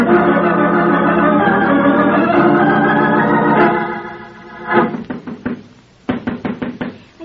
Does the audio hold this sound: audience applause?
no